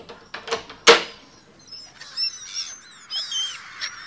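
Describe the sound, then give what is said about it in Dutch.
A few sharp, loud bursts open the scene, followed by a flurry of harsh, overlapping bird squawks and screeches, repeating in agitated bursts with no one speaking, as the birds attack a person and her bag. “Het zijn per slot maar vogels. Ze kunnen me niks doen.”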